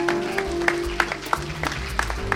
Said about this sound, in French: On va les applaudir très fort quand même parce que c'est un boulot formidable.